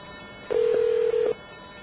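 A steady telephone trunk wink supervision signaling tone, synthesized by a chip, sounds for under a second, loud, with a brief dip partway through before cutting off into a quiet line hiss.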